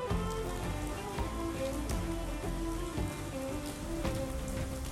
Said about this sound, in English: What do you think about the rain? What are your feelings? Would you like to listen with me?